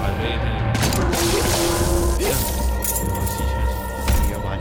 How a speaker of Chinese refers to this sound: 它会爆炸， 会爆炸，突然间对，天上